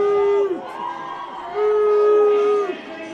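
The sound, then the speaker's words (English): A baseball crowd boos the computer umpire after a 2-2 pitch call, in two long, loud swells, a sustained low chorus of voices that dips briefly in between before rising again and fading. “Fans booing the computer umpire.”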